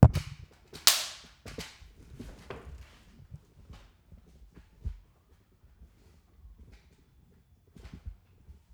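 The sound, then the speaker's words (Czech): A sharp wooden snap of a film clapperboard rings out near the start, marking scene 1, take 1 of an interview shoot, followed by a few softer clicks and faint knocks over a mostly quiet background. “Klapka. Rozhovor scéna 1, take 1.”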